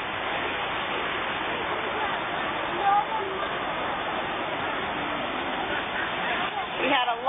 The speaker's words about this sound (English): Unfortunately, the river rushing was a little too loud for them to give any testimonies, but the Lord knows that too.